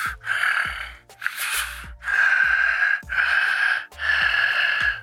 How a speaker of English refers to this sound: can't hear the point you're making there over your breathing, but crack open that salbutamol and get back to us shortly.